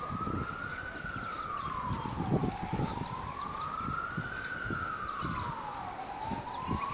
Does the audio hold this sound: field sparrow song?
no